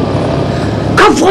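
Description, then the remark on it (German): A steady, droning roar of a hovering helicopter fills the background, constant, before a voice shouts briefly over the noise near the end. “Der Hubschrauber hält wieder an.”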